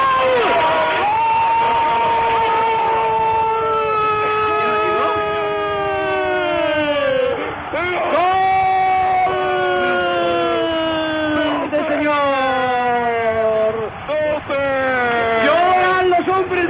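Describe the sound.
A stadium crowd roars and cheers continuously after a goal for Spain in a match against Malta, while loud, drawn-out shouting voices wail and slide downward in pitch over the din, rising again in repeated bursts.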